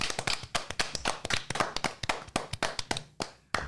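A small group applauds, with irregular, overlapping hand claps that sound close and crisp, steady for a few seconds before thinning out near the end. No one speaks.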